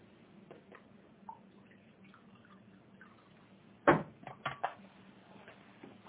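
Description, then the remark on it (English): Someone gets a drink of water: a few short clinks and splashy knocks cluster midway through, over a steady low hum, with no one talking. “Hold on, let me get some water here.”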